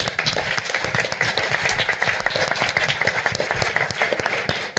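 Steady applause from an audience, many hands clapping at once in a dense, even crackle that holds at a fairly loud level throughout without letting up.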